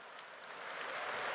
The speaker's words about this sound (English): The audience is clapping already. But please be serious.